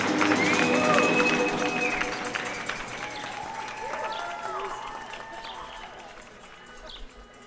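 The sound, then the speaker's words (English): At 7 o'clock, a city crowd cheers and makes noise: dense, continuous clapping and shouting, with rising and falling whistle-like tones woven through, loudest at the start and staying steady to the end. “7 o'clock, with its noise, its joyful cacophony, seems to bring the whole city together in a kind of primal scream.”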